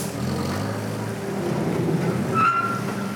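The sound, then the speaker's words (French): A steady engine drone of a Fenwick forklift unloading almost a tonne of mussels from a boat at a dock, with a brief high-pitched mechanical squeal near the end as the load shifts. “Le Fenwick débarque du bateau, là, presque une tonne de moules,”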